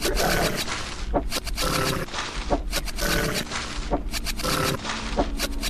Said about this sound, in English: Wolf. After I deal with this wolf. Battle begins.